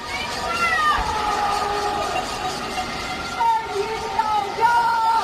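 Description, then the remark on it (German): Many people in Shanghai shout and wail from their windows in long, rising and falling cries over a steady din, with a few sharp banging bursts near the end as they strike pots and pans, protesting that they did not have enough to eat. “Da haben die Menschen an ihren Fenstern geschrien und auf Töpfen und Pfannen Krach gemacht, weil sie nicht genug zu essen hatten.”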